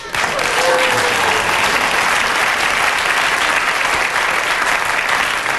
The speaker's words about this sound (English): you so shattered the audience with those last remarks, I actually had to ask them to clap at the end because I didn't feel they could.